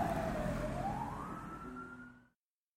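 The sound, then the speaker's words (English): Fire truck sirens, with one wailing upward and holding a steady high tone over a low engine rumble; the trucks are heading towards Sim Lane in Simsville, gradually fading away before cutting out after a couple of seconds. “Those fire trucks appear to be heading towards Sim Lane.”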